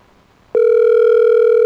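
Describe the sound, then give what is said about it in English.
A telephone line ringing unanswered: after a moment of quiet, a loud, steady electronic tone comes on abruptly and holds without a break, clear, with no voices. “Well, the ringing is not a good sign.”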